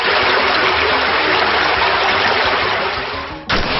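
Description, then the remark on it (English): A loud, steady rush of gushing water fills the moment as a video game water attack move called Drench, cutting out briefly near the end before surging back. No voices. “Drench, Water, Gamma Drain, Power Kick, Fight a Gamma, Drench, Water, Special, Hydric use Drench.”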